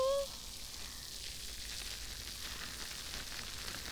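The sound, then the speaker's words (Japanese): Foam of a fizzy carbonated mint shampoo, being lathered up, fizzes and pops right by the ear, a steady, soft crackling hiss full of tiny bright pops that carries on evenly after a brief vocal sound at the start. “耳元で炭酸の泡が弾けてるの分かりますか？”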